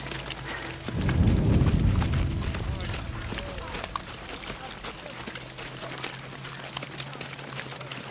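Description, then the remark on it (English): Gunfire during midnight target practice on a firing range: a deep, rumbling blast early on, followed by a scatter of sharp cracks over a steady low hum, with muffled voices in the background. “it's midnight firing range exercises. Target practice.”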